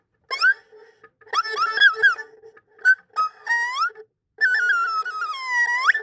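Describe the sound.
A person imitates a bird call as a turn in an animal-sound imitation contest, with a series of high, squeaky whistled chirps and warbling slides, in short bursts then a longer trilling phrase.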